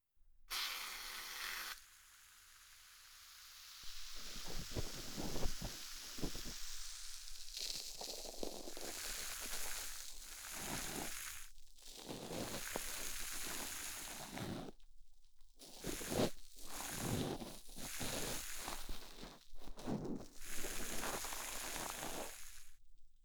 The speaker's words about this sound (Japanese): お耳に触れた瞬間のジュワって音と、その後のパチパチって音が気持ちいい。